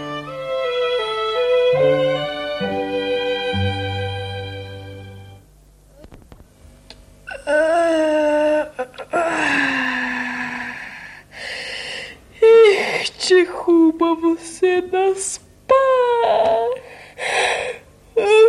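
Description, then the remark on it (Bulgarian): After a few seconds of soft tonal music, a fox, Kuma Lisa, lets out a series of long, drawn-out yawning sounds on getting up, fairly loud, with wavering moans and gasps between them. “Навън се спря, очите си потри, додето Лиса дълго се прозява, излизат и лисичетата три.”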